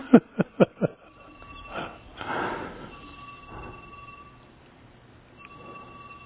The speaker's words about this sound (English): Yeah, could we turn the phone off, whoever it belongs to? Thank you.